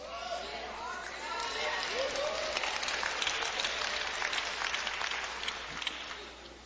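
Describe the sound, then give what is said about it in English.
An audience claps steadily for several seconds, dense and fairly loud, with a few raised voices calling out early on; the applause eases off slightly toward the end. “Y'all see how the claps are getting lower and lower with each one?”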